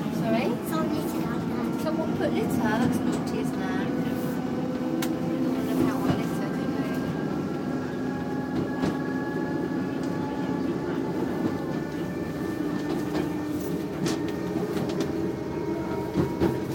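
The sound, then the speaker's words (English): Steady rumble of a tram rolling along rails from inside the car, with a rising motor whine, occasional clanks and rattles, and faint muffled voices underneath. “So it's our tram ride, and hope you're all okay. And we're just enjoying the sounds.”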